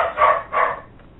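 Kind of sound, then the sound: animal, dog barking or yelping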